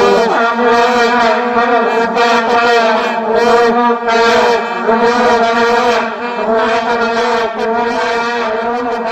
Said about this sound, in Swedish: Alltså ni vet den där stadiotutan som det blåste spritigt i under fotbolls-VM 2010. Ja. Och kommer ni inte ihåg den så blir ni påminda här och nu.